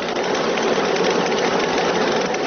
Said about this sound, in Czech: I zaista bila bi šteta kada se u ovom starom, ali funkcionalnom mlinu ne bi više čuo jedinstveni zvuk kamena kojeg pokreće voda, odnosno kada bi nestalo svjedočanstvo o životu i radu prije stotinja godina u ovom dijelu Bosne i Hercegovine.